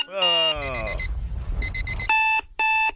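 alarm clock ringing

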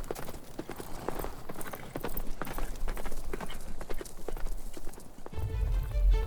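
horses galloping away

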